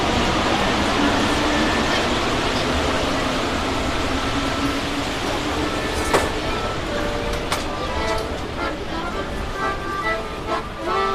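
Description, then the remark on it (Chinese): A subway car rolls along with a loud, steady rumbling roar, broken by a couple of sharp metallic clanks and faint squealing tones as the ride continues. “我知道，这是在地铁里要饭的。”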